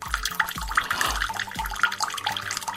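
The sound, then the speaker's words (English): A steady hiss of water running from a tap, continuous throughout, with a regular deep thumping pulse underneath about twice a second. No one speaks. “Is that water?”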